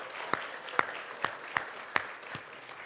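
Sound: audience clapping hands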